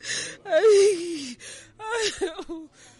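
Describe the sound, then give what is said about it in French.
A woman in a camp in western Cameroon cries, having just lost her 2-year-old daughter to malnutrition, in two bursts of wavering, moaning wails broken by breathy sobbing gasps, over faint background murmur. “elle pleure parce qu'elle vient de perdre sa fille de 2 ans, victime de la malnutrition.”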